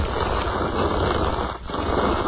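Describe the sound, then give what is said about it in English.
Someone crunches an Altoid mint candy, producing a loud, dense, continuous crackling and grinding noise with a brief dip partway through. No one speaks. “See, this is an annoying sound. I would hate if you did this.”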